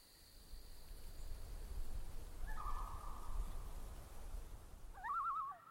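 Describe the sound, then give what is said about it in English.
Outdoor ambience at Beulah Bog: a steady high insect drone hangs over a low rumbling background, with a longer mid-pitched call in the middle and a short warbling bird call near the end. “Beulah Bog.”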